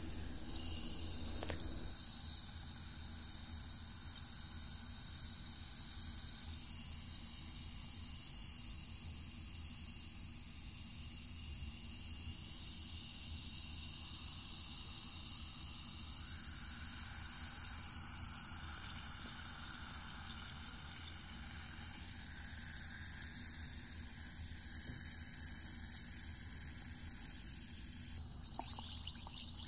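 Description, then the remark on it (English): Water fizzes with a steady hiss that runs unbroken for about thirty seconds, bright and crackly at the top with a low rumble underneath, and no voices. “Oh, it's working. Listen, the water's fizzing.”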